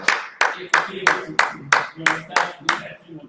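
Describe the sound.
Steady rhythmic clapping for a participant who earned a second red point in a quiz, about nine sharp claps at an even pace, with faint voices murmuring underneath between the claps.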